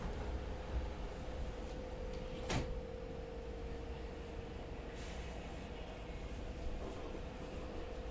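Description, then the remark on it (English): The doors of the last metro train to Largo Town Center slide shut with a single sharp thud, then a steady electric motor hum and low rumble carry on as the train pulls away. No one speaks. “Step back. Doors closing.”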